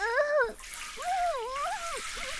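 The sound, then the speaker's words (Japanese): Steady hiss of shower water spraying, with a wordless, wavering voice rising and falling over the continuous spray in a few drawn-out tones. “シャワーがクリクリしまくる。”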